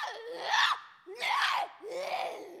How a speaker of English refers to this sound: Ours are a little more specialized because we do a lot more intense vocals, a lot louder. We do screeches that really reverberate in the vocal box, and that really tends to cause some stress.